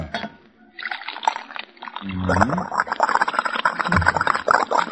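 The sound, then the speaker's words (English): Liquid pours steadily into a shaving mug, a bright splashing trickle that rises in pitch as it fills, fairly loud, with a faint voice briefly underneath. “Pour some of this in the shaving mug.”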